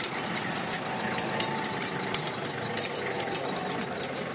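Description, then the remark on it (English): A motorcycle brought in for repair idles steadily at Tukole Boda Boda Garage in Makindye, a Kampala suburb: a continuous rumble with rapid mechanical ticking and occasional sharper clicks, set against a busy, noisy workshop background. “At Tukole Boda Boda Garage in Makindye, a Kampala suburb, I meet 26-year-old Chris Chibuka, who has brought his motorcycle for repair.”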